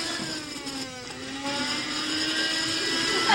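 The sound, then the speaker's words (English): A drill at a city clinic whirs steadily with a high, buzzing mechanical whine, its pitch wavering briefly before settling into a continuous drone that grows a little louder toward the end. No one speaks. “Sounds like a drill to me.”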